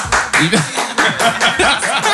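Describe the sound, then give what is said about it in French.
A live audience at an evening show applauds loudly and steadily, dense clapping filling the whole stretch, with scattered voices and cheers mixed in. “Un applaudissement de 10 minutes en folie, c'est super.”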